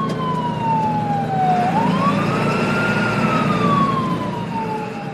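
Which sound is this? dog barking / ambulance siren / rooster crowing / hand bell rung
ambulance siren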